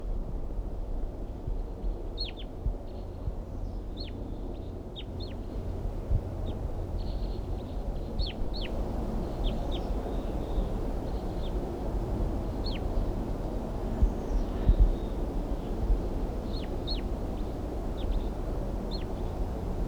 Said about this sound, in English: So recording the crossbills now, giving alarm calls and a soft whisper song.